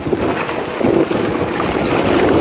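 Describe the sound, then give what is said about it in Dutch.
North Sea water rushes and splashes steadily against the hull of the moving ship MV Miamigo, with the microphone held down by the water from the deck; a loud, continuous churning wash of foaming waves with wind buffeting the microphone. “Het schuim wel een beetje, maar het komt niet door het badschuim, maar dat is het schuim van de golven. Dat is de zee.”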